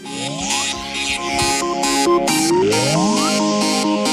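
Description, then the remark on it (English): An iPhone alarm tone called Dollop plays: a bright, bouncy electronic melody with upward-sliding notes over a steady pulsing beat, fairly loud and continuous, with no one talking. “At the moment, my alarm is a sound called Dollop.”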